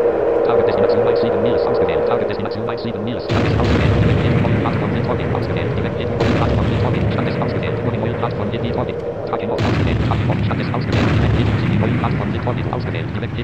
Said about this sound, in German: Rums. Das bummt schon ganz schön. Und ich weiß nicht, ob ihr es gehört habt, aber achtet mal drauf, wenn die Torpedos abgefeuert werden, das hört man auch. Die sind manchmal links und manchmal rechts.